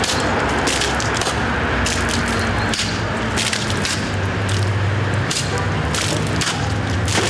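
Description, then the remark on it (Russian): Sabre strikes during Cossack cutting practice by members of the Penza Cossack society, on a square in front of a spiritual and educational centre, training for sabre-cutting competitions: a series of sharp, irregular swishing cracks, several spaced a second or more apart, cutting through a steady, loud wash of outdoor background noise. “На площадке перед духовно-просветительским центром представители Пензенского казачьего общества отрабатывают удар.”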